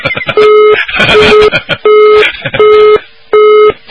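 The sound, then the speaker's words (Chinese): A listener's phone call drops and the line goes dead: a steady low busy tone pulses on and off about five times in an even rhythm, with a voice talking over the first few beeps. “好了，电话又没了。”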